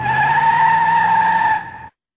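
A loud, sustained screech of car tyres skidding, a steady high-pitched squeal over a low engine rumble, lasting nearly two seconds before cutting off abruptly. No voices.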